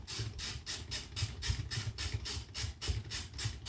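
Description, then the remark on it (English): A tea-making machine with an alarm clock boils water, giving a steady low rumble overlaid with regular, rapid pulses of hiss, about three or four per second, with no one talking. “I can hear it boiling.”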